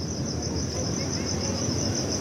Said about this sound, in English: But the owls and the insects were the wind and the leaves, and there was just lots of singing, different kinds.